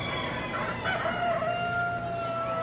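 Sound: chickens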